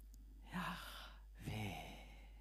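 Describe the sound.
A voice softly whispers the name Yahweh as breathy, slightly panting exhalations, sounding like an inhale-exhale breath, quiet with a brief pause between the two airy syllables.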